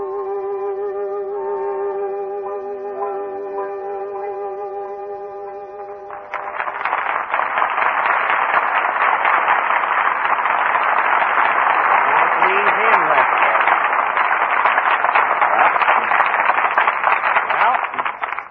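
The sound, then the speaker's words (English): A sustained tonal musical passage fades out, then a large audience breaks into loud, steady applause that continues unbroken for about twelve seconds as a dense wash of clapping. “The applause from the audience speaks for itself.”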